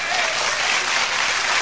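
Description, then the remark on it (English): A crowd claps steadily in a dense, loud burst of applause that holds even and unbroken for the whole stretch, with no voices rising above it. “Are you clapping because I'd get arrested?”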